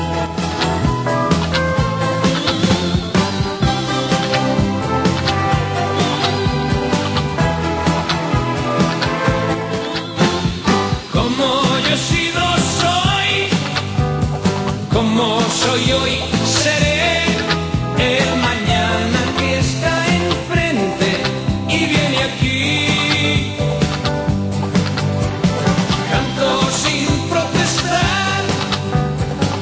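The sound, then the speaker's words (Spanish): A full-band Spanish pop song with a male vocalist singing over steady drums and bright instruments, played loud and continuous from start to finish. “Ponla, ya verás como más de uno y más de una os sentiréis identificados con la letra.”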